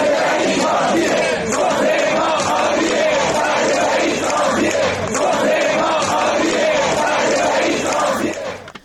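A large crowd of nurses and medical staff at hospitals in Sanandaj, Kurdistan province, Iran, chants in protest over unpaid salaries and benefits, many voices shouting together in a steady, loud, rhythmic roar that holds for several seconds before trailing off at the end.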